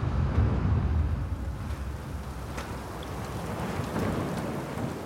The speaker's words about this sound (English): He hasn't seen weather like this since they set sail. There's a strong, icy wind, and a mix of snow, sleet, and hail pound the exposed deck. The sky is ominously dark.